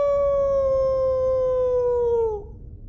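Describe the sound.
A voice imitates a wolf howl: one long, steady, loud howl that slowly sinks in pitch before breaking off abruptly, with no talking around it.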